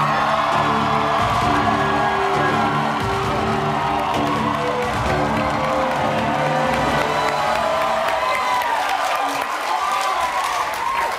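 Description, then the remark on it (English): A crowd applauds and cheers steadily as guest Anthony Romero, a lawyer, walks in, with whoops and shouts rising over a dense wash of clapping that stays loud for the whole stretch, fading slightly near the end. “Did you ever think as a lawyer one day people would be cheering for you when you walked into a room?”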